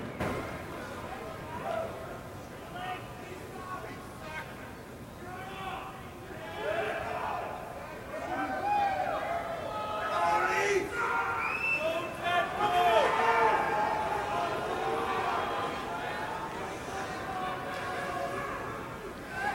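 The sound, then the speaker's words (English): A large hockey crowd at a Canucks and Leafs game shouts and chants during the anthem in a dense roar of overlapping voices, with cries of "go Canucks", "go Leafs go" and "shut up" and sharp individual yells rising above the babble, the noise swelling louder toward the middle. “And then there's three or four go Leafs or go Leafs go. and then a bunch of shut up screaming back at them or whatever.”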